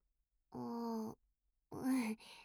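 A voiced yawn by a girl who is getting sleepy near her usual bedtime: a long, drawn-out moaning breath, a short pause, then a second stretched sound that falls in pitch and trails off into a breathy exhale. No talking.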